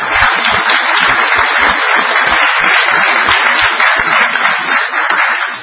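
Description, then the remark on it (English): A steady round of applause from a crowd honoring a man's work on an issue, many hands clapping in a dense, continuous patter that stays loud throughout without any talking over it. “I'll give you a round of applause.”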